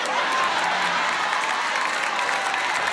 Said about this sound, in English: Look, the women clapping. The guys is like, I don't like this joke. It's disrespectful.